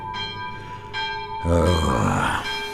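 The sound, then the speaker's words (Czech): A small church bell rings the Angelus in slow, evenly spaced strokes, each tone lingering and shimmering, its sound carrying into a dark forest, while a low groaning voice briefly swells beneath it midway. “A tu náhle zazněl hlas zvonku, klekání.”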